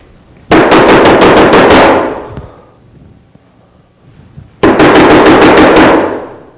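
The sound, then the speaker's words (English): Two loud bursts of rapid knocking on a house door at about 2 in the morning, each a quick run of about eight sharp, booming raps, separated by a few seconds of quiet. “Is somebody knocking on our door?”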